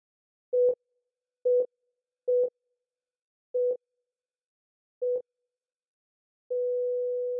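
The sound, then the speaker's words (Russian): A handful of short, evenly spaced electronic beeps from medical devices give way to one long, unbroken, grating beep that drones on steadily until the end, clear and alone with no voices. “Писк. Противный и протяжный, бьющий по ушам.”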